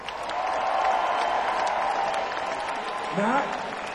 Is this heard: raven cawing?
no